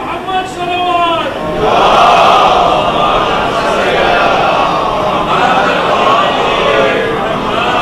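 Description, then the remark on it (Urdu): A large crowd chants the religious slogan Nara-e-Haidari in unison, loud and sustained. A single voice leads briefly before the massed voices rise together and hold the chant to the end. “اس نعرے کے ساتھ سوائے نعرہ حیدری کے کوئی اور لفظ نہیں لگنا چاہیے.”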